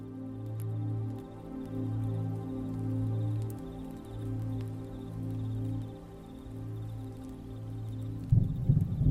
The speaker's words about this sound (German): Ein entfernter Donner ist zu hören. Und angenehme Regenklänge entfalten sich. Sie begleiten dich in dieser Nacht.